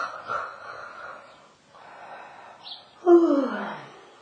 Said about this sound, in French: Des gorgées d'air qui amènent des bâillements et vous bâillez, regardant la balle, comme si vous adressiez vos bâillements à cette balle.